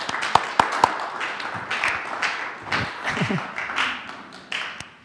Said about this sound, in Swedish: Välkommen. En applåd tycker jag.